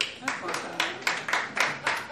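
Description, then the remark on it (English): A lone audience member, a man drinking alone, claps steadily, roughly eight sharp claps in an even rhythm, over a low room murmur. “One guy drinking alone, clapping.”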